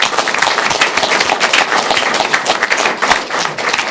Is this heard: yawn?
no